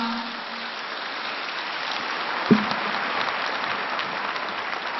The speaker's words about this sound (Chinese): 让我们再次用最热烈的掌声感恩大慈大悲观世音菩萨，感恩卢军宏台长